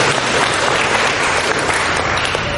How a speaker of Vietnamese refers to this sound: Rồi, thưa anh chị em, chúng ta cho tất cả những người trả lời với một câu tràng pháo tay thật to, thưa anh chị em.